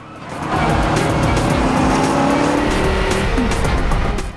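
A car, followed by a sedan, drives hard, engine roaring steadily as it weaves through turns, with tires squealing in rising, sliding tones over the constant rumble. No one speaks.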